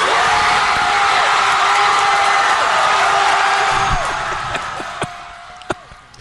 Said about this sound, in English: That. That's the cheering for Spot Hero and for Loyola.